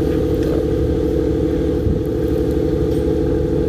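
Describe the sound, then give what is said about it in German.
A small motorboat engine drones steadily and loudly, a low rumbling hum with a constant pitch that holds without pause from start to finish. “Ja, es ist ein kleines Motorboot.”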